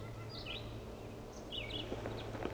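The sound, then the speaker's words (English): Crossbill calls played back from many decoys set out to lure a male crossbill into position to be caught for banding: a few short, high, chirpy notes in scattered bursts, fairly faint, over a steady low hum and background noise. “He's not calling, but the many decoys are.”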